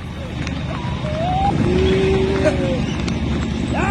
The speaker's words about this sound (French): Keep going, allez avancer, crie-t-il en utilisant, vous entendez, une corne de brume.